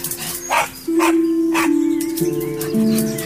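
A dog barks several times in quick, evenly spaced yaps over a steady backdrop of sustained musical tones, the barks clear above the music.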